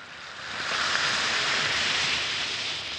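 A steady fizzing hiss of an Alka-Seltzer effervescent antacid tablet dissolving in water, an even bright crackle that holds constant for about three seconds with no voices.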